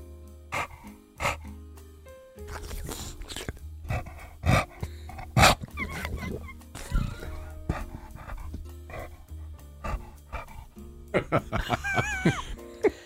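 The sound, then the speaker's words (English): A dog named Steve breathes heavily and wetly, with sloppy panting and snuffling bursts over about thirteen seconds, plus a few brief higher whines or yelps near the end. “But he's a slobbery, heavy breathing boy.”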